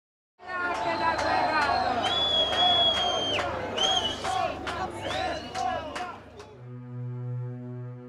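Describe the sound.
A large crowd on the stairs in front of a courthouse, agitated about the verdict in the Amanda Knox case, yells "Shame on you", many voices overlapping in loud, rising cries for several seconds before a steady, low horn-like blare takes over at the end.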